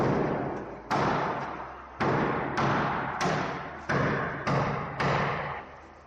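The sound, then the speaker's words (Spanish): Heavy sledgehammer blows, struck by a resident against the wall in front of his parking space in the garage of an apartment community in Madrid, about seven loud, booming impacts spaced roughly a second apart, each leaving a long ringing decay. No voices are heard. “Estos martillazos lo está pegando Fernando Prieto, que es uno de los vecinos de la comunidad, frente a su plaza de garaje.”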